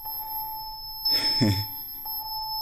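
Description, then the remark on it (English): Bright, bell-like synthesizer tones hold steadily while a clock opens the synth's gate, giving a fuller, noisier note about once a second, with sharp onsets at the start of each beat; pitch voltage comes from a quantizer fed by a solar panel. “But this is just, you know, I got a clock opening the gate on the synth.”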